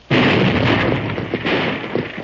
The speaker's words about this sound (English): Leaping catfish. What was that? Steady, Silver, steady. Blasting powder, Marshal. You! Explosion blasted the dam between this water gap and dry gulch.